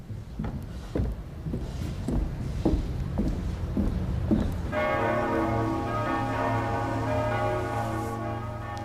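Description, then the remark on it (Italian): Church bells in Lucerne ring in the morning in a steady series of strikes, then swell into a sustained, layered peal with long humming overtones, loud over a low background rumble of street noise. “Ci eravamo svegliati alla mattina con le campane.”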